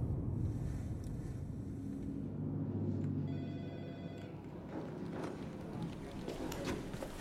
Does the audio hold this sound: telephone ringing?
yes